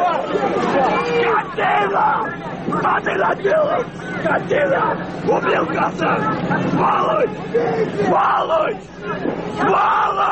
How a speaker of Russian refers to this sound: Когда все услышали лязг железа на кольце, все подумали, что идет атака. Это был такой всплеск эмоций, крик. Эти сотни людей закричали, а потом замолчали.